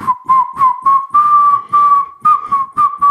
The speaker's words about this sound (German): Aber kannst du eine Melodie pfeifen?